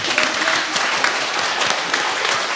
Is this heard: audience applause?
yes